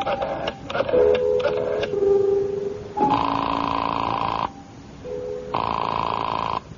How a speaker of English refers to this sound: I had an uneasy feeling in the pit of my stomach as I went to a phone and dialed my number and waited for it to ring.